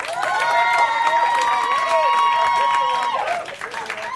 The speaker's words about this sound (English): I think that is the vacant Mr. Josh Gondelman with Real Housewives. Not even here to listen to his own applause.